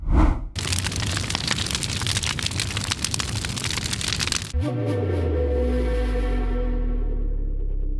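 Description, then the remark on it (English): A steady hiss of heavy rain runs for a few seconds, then gives way to a deep, sustained rumble of thunder rolling in the distance, low and loud to the end. “Do you hear that thunder rolling in the distance?”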